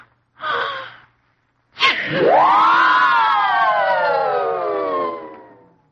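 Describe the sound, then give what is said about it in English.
An exaggerated sneeze of a little boy in a story: a short breathy intake, a pause, then a sharp burst that stretches into a long, voiced, slowly falling wail lasting several seconds. No talking. “And it tells of the various times that Shlomele sneezed.”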